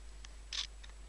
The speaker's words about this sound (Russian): Шумный фотоаппарат – это фотоаппарат, который, когда он снимает, делает щелчок. Щелчок – это такой звук.